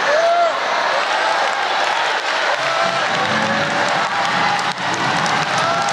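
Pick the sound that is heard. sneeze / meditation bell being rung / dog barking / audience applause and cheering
audience applause and cheering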